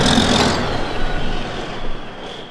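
A heavy, fully loaded logging truck rumbles past through a tiny timber-country town, a loud, steady low roar with a faint high whine, easing slightly before surging again near the end. No one speaks.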